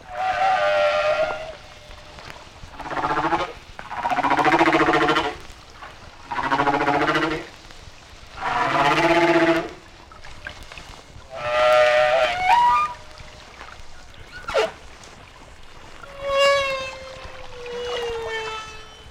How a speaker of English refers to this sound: This is a Hawaiian humpback song. Because this whale was in shallower water, the booming echoes of the deep are less apparent.